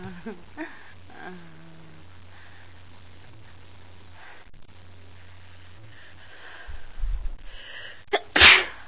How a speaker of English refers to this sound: Little sneeze there.